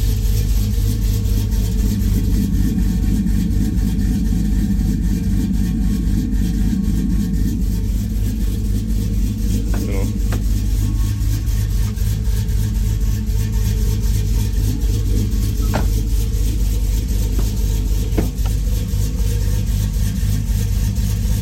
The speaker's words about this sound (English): Truck sounds good. You know, I mean, it counts it off a little bit. It's just a stage two. That way I can keep the factory stall in there.